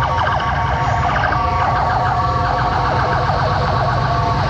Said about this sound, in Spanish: Todos los vehículos de emergencia de carabineros, bomberos, ambulancias están pasando por la carretera y hay un atochamiento gigantesco producto de esta emergencia,